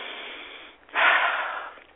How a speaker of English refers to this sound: So let me take a deep breath.